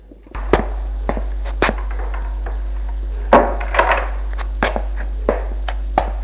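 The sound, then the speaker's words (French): Irregular wooden footsteps thud across a floor over a steady low hum as a man lets a woman in, with a heavier thump partway through as he shuts the door, followed by more scattered steps and knocks. “Il la fait rentrer et ferme la porte.”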